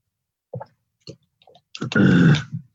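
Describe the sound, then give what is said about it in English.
A few soft, wet mouth clicks and gulps of someone sipping water, followed by a louder, breathy exhale lasting under a second. “I'm going to have a drink of water here.”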